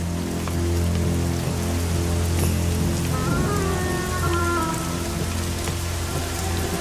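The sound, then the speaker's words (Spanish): Heavy rain pours down steadily in a storm with lightning, a dense, continuous hiss of drops hitting surfaces, with a low rumbling undertone throughout and no voices. “Se protege de la lluvia cubriéndose la cabeza con la chaqueta.”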